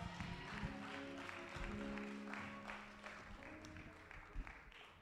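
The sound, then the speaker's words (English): A church audience applauds for Jesus with steady, dense clapping that fills all five seconds, while sustained organ-like tones hold underneath. “Let's give that hand of applause to Jesus.”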